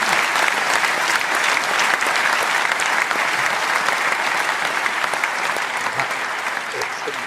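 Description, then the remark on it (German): Sustained applause from a sizable crowd, a dense, steady wash of clapping at an even, fairly loud level that holds throughout and thins only slightly at the very end. “Und also für mich auf jeden Fall ein Applaus wert, weil das finde ich ganz, ganz stark.”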